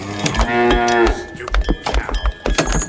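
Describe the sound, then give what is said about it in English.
A cow lets out a long, loud moo with a strong harmonic drone, followed by shorter grunting calls and some scattered knocking sounds. “Hey, cow, you got no shoes on.”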